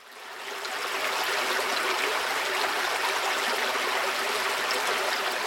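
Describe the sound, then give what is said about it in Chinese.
A babbling stream flows steadily underfoot after getting off at Caonan station in Maokong, a continuous bright rush of water that fades in at the start and then holds even, with no voices. “在草湳站下车后，会听到脚下传来潺潺流水声。”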